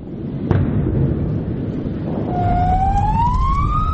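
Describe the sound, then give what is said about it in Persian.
An ambulance siren in Gaza amid bombardment starts partway through, its tone sweeping steadily upward, over a constant heavy low rumble. A single sharp thud stands out early on, and no one speaks. “بمباران، صدای آمبولانس و شیون بازماندگان.”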